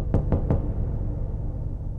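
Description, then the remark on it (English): Three quick, evenly spaced knocks on an office door, distinct, followed by a low room hum with no one speaking. “And then there was a knock on my door.”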